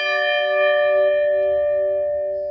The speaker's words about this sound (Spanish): Campana de cúpula, también llamada de difuntos, como 9.